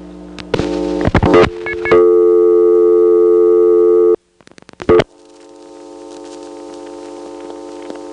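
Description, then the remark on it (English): Bursts of sharp mechanical clicking from step-by-step telephone exchange selectors as 411 is dialed, interrupted by a steady buzzing line tone, then more clicks through a second and third selector and a low, humming long phone line that slowly grows louder. “We can demonstrate this rather graphically by calling 411, and then while we're at it, let's play operator roulette.”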